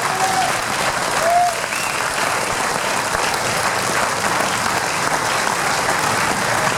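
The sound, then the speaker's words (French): Sustained audience applause fills the space, a dense, steady wash of many hands clapping at once, loud, with a few faint whistles rising above it. “Je voudrais un tonnerre d'applaudissements pour plusieurs personnes aussi, s'il vous plaît.”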